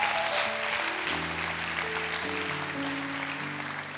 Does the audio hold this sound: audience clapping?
yes